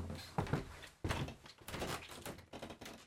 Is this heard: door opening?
yes